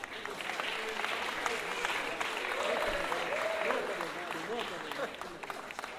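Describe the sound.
A crowd applauds steadily and fairly loudly for several seconds, a dense wash of clapping with a few voices and a brief cheer rising over it.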